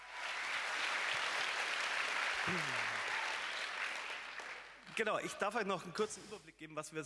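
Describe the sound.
A crowd at an event claps steadily in a dense, sustained burst of applause for several seconds as a speaker is called on stage and colleagues are applauded, which then dies down as a person starts talking.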